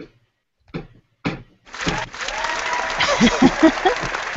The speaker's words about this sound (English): Get the applause ready